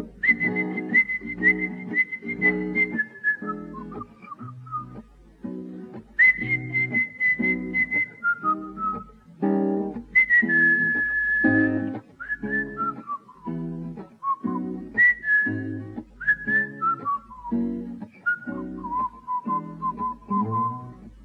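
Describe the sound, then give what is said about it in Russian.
A person whistles a steady, drawn-out melody over a slow blues accompaniment with a thumping beat, the whistle sliding between notes and staying clear and prominent throughout, with no talking. “песня блюз, которая называется …”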